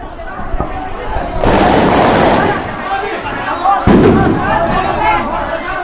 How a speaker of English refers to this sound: It started with gunfire and explosions. An unknown young army officer named Hugo Chavez trying to overthrow Venezuela's government. It was 1992.